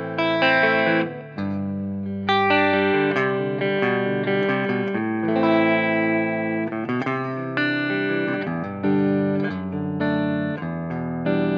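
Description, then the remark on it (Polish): An overdriven electric guitar plays through an amplifier set at a low volume between 0 and 1, strumming loud, gritty chords and ringing notes continuously with only a brief dip early on, full with no voices. “Strasznie łatwo się przesterowuje.”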